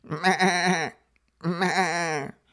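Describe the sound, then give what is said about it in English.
Two long, wavering sheep bleats, one after the other with a short pause between, loud with a quavering, nasal tone and no other sounds around them. “Those sheep got it made in a way.”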